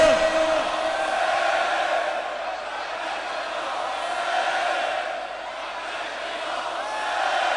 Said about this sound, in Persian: دستتو بیار بالا سه مرتبه فریاد بزن لبیک یا حسین.